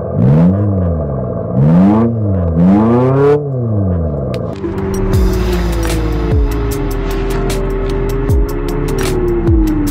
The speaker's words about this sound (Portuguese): Sim, um carro elétrico com ruído de motor a combustão. E é claro que como a gente não tem escapamento aqui, esse ruído é artificial. E o segredo está aqui embaixo.